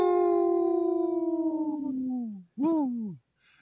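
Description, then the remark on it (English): A wolf howls: one long, steady note slowly sliding downward, then a shorter howl that rises and falls. Loud, with no talking. “In this portion of the show, we like to bring awareness to our Minnesota wolf population.”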